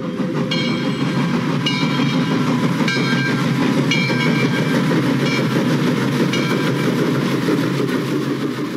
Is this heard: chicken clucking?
no